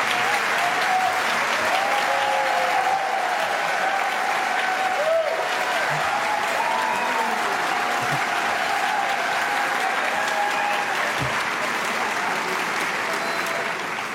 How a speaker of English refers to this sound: Could we give another round of applause to Paul Fanlon and to the whole team here at Idea Fest at the Capital Times here in Shannon Hall? What a gift to our community this institution is.